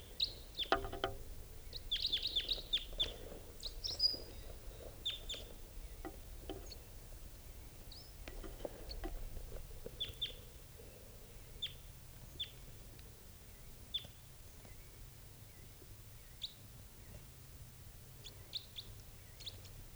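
A wild bird calls close by with short, high-pitched chirps and tweets, scattered irregularly throughout over a low, steady background rumble, with a busier cluster of notes early on.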